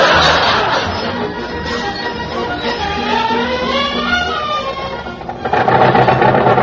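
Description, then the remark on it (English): A car engine runs steadily with a rattling, pinging knock throughout, then revs louder toward the end. “I gotta do something about that ping in the engine.”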